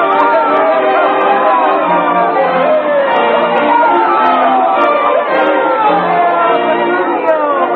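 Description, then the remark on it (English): A large crowd murmurs and chatters steadily on the steps outside a church, many overlapping voices blending into a loud, continuous hubbub with no single speaker standing out. “On the steps of the church, Petruchio stops with his bride on his arm and bows to the crowd.”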